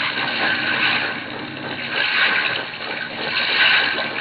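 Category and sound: vehicle, boat moving through water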